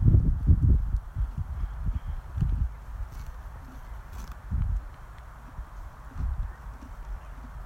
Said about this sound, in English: Anyway, I think I'm going to leave this horse now to get on with chomping on the grass, as he seems to be doing quite happily now, and we'll carry on the walk out towards Hunger Hills.